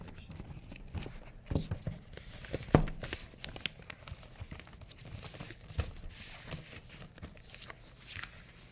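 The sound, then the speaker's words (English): Continuous paper rustling and crinkling as a large book is wrapped in a sheet of paper too small for it, the paper folded and shifted, with sharper crackles and soft taps scattered irregularly throughout. “so you can hear all the paper moving around.”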